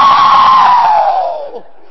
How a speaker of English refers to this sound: Neighbor, don't shout like that. It's loud either way you go.